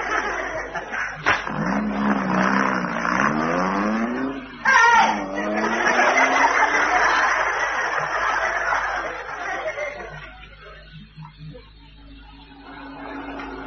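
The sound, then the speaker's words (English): A big lorry driving along, its engine whining upward in repeated rising sweeps as it works through the gears, then settling into a steady loud rumble that eases off toward the end. “Must be quite a responsibility driving a big lorry like this.”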